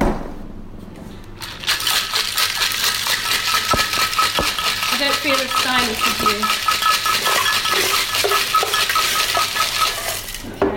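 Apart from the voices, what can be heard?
ice rattling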